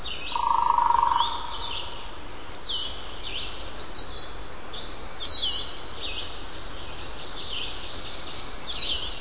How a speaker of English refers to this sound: And now, from Minnesota to an old-growth hardwood forest in North Carolina, where warblers and vireos sing and woodpeckers drum.